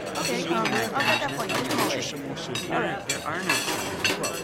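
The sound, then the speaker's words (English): Plates and dishes clink and clatter as they are gathered up, a busy run of bright knocks and scrapes mixed with overlapping voices murmuring in the background. “Excuse me, ma'am. May I take your plate?”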